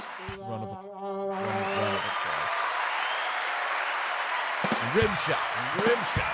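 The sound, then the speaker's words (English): A crowd bursts into sustained applause, steady and fairly loud for several seconds, with a few voices calling out over the clapping at the start and again near the end. “Round of applause.”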